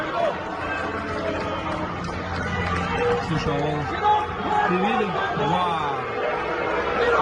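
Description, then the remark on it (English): A crowd at a church conference shouts and jeers a speaker down, yelling for him to get off the platform, in a dense, continuous roar of many overlapping voices, with louder individual yells rising from the din throughout. “People are shouting him down because of what he just did.”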